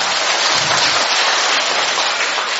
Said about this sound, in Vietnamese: Cho một tràng pháo tay từ anh chị em.